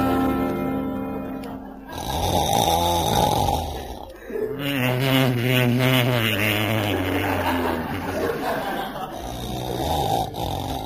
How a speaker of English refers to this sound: please turn on your side and stop snoring.